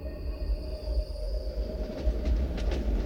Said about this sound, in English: It seemed as if when that train roared past them on the main track, the conductor must have slipped or fallen without anyone knowing any different, and the heavy steel wheels of that train barreling forward just took his head clean off.